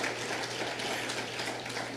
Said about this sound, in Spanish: Dale otro fuerte aplauso al Señor.